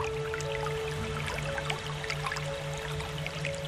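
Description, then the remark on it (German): Steady, gentle trickling of a small glittering brook with scattered small drips and splashes, as if running over stones, accompanied by a faint constant hum in the background. No voices. “Bald schon überquert ihr einen kleinen glitzernden Bach, dessen Wasser wie flüssige Edelsteine funkelt.”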